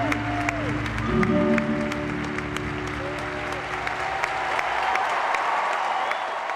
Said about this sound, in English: She knelt on the ice and put her face in her hands as the tears came, and the crowd of 15,000 people stood to applaud her.